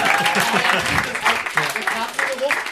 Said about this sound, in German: Danke für den Applaus an der Stelle.